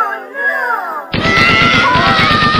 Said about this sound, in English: 80,000 screaming kids are being subdued by a well-placed shot to the head.